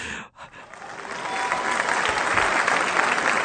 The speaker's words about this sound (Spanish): No me pusiste aplausos. Acabo de leer un cuento que me costó mucho trabajo y el público no aplaudió, ni Torongo Torpedo me ayudó.